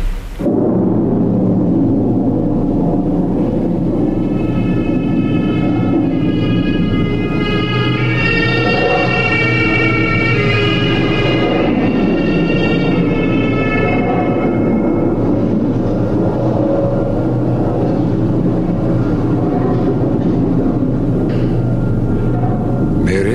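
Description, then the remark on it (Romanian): A storm wind blows fiercely through a royal house, roaring steadily and loudly, with eerie whistling, howling tones swelling through the middle before easing back into a broad rushing gust. No voices. “Bate furtuna și suflă năbraznic prin casa domnească.”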